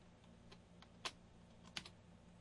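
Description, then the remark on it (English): A few sharp, irregular key clicks from a computer keyboard, with two louder taps standing out, over a low steady hum and no voices. “Having some keyboard problems here.”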